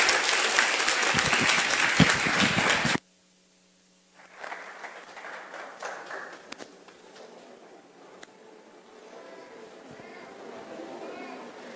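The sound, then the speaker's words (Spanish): A loud burst of audience applause welcoming ICQ students who are about to perform the play El Camino hacia el Dios de la Lluvia fills the first few seconds, then cuts off abruptly, leaving quieter faint voices and movement. “Vamos a recibirlos con un aplauso y estar muy atentos.”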